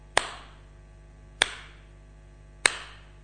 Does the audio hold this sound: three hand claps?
yes